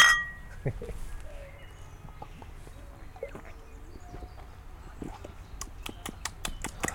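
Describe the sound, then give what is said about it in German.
Glass bottles of Sprite lemon soda knock together in a toast in a quick series of bright, hard clinks near the end, with a few scattered taps and handling noises before, fairly quiet. “So. Prost! Prost!”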